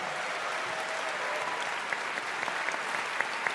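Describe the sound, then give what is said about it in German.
Steady audience applause for Team Grün after a game's points count, a dense wash of many hands clapping at an even level, with a few sharper individual claps standing out near the end. No one speaks. “Team Grün, einen riesigen Applaus für Team Grün.”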